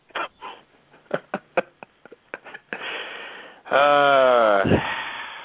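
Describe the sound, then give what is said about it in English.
A dog sniffs and snuffles in quick bursts, then lets out a loud, drawn-out whine, all sounding thin and band-limited, carried over an unmuted phone line. “you're still unmuted. Just want you to know that. 561. Maybe the dog.”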